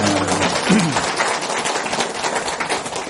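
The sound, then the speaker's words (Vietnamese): A crowd of people breaks into steady applause, dense overlapping clapping that stays fairly loud throughout, with a brief low voice or murmur near the start. “cho nên quý vị phải nhớ người xưa, cho một tràng pháo tay nữa.”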